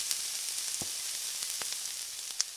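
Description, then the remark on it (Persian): Meat frying in a pan, one side browned and being turned to brown the other, gives a steady, hissing sizzle, broken by scattered sharp crackles and pops, with one brighter pop near the end. No one speaks. “خب الان یه سمت گوشتم سرخ شد، برش میگردونم سمت دیگهش سرخ شه.”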